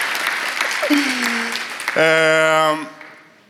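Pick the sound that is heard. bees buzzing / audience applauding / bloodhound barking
audience applauding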